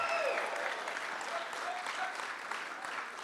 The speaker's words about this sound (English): Can you do a better bit of applause there?